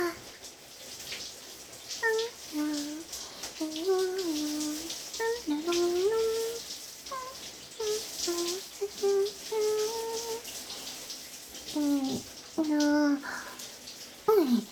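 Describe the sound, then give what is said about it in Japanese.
A steady hiss of shower water sprays continuously while a soft voice speaks over it in a sing-song way, partly imitating the swishing spray, wetting everything thoroughly before a shampoo. “まずは、全体をしっとりと、 シャワシャワー、シャワシャワーっと。”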